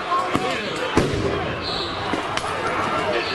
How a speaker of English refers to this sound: The police are firing tons of flashbangs into the crowd. They've only attacked the anti-racist protests.